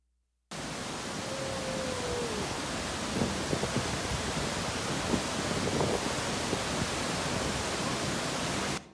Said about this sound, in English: I just want you to hear the thunder of a waterfall. This is Vernal Falls from Yosemite Valley.